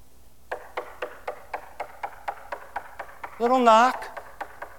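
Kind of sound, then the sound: impact, knocking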